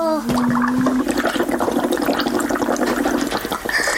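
Someone blows hard through a straw into a drink, making a loud, continuous bubbling gurgle that lasts about three seconds with a steady low hum running underneath.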